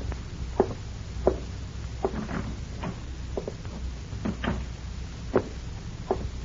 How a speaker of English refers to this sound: When you walk into this house, Leif, close the door quietly. Now go back and do it.